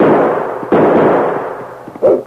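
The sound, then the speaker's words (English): Three loud gunshots ring out by a town jail as a dog sled pulls away, one at the start, another a moment later and a third near the end, each a sharp blast trailing off into a rumbling echo. “Lobo, you stay out of the line of fire.”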